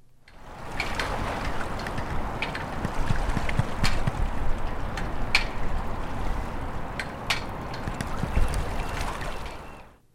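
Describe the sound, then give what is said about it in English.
Steady rush of the Columbia River flowing past at the Maritime Memorial under the Megler Bridge, a dense continuous wash of sound with some traffic, broken by scattered sharp metallic taps and clicks at irregular intervals from a flagpole line slapping against the aluminum pole. “You can hear some traffic sounds, and you can also hear the sounds of a flagpole with the line for the flag slapping against the aluminum pole. But you can also hear the water.”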